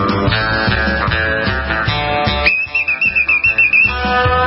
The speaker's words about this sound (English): Man, they've got real whistles there at the highway patrol.